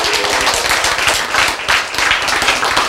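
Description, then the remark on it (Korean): Steady applause from an audience, a dense wash of many hands clapping at a fast, even patter, loud and sustained for the whole stretch with no voices over it. “그래서 박수를 치고 함성 질고 웃기도 하고 그렇죠.”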